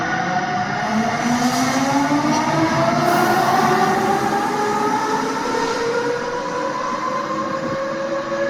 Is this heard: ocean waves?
no